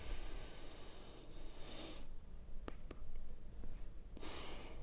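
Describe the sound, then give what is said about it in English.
A drawn-out yawn with breathy inhales and exhales over a few seconds from a tired person, heard alone with no talking. “Sorry, I just yawned.”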